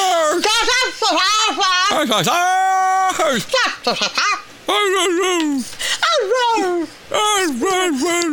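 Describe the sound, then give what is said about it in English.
A person imitates a St. Bernard dog trying to talk like a human, producing loud, warbling howls and yowls that rise and fall in wordless, speech-like bursts, with a long sustained wail in the middle. “People doing impressions of dogs doing impressions of people.”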